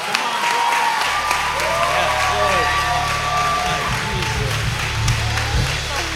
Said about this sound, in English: My God. Y'all better clap a little louder than that. That is life changing.